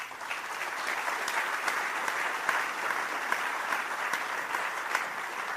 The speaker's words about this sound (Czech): no tak asi netleskali mi, no tak teď už tleskají, tak je to dobrý.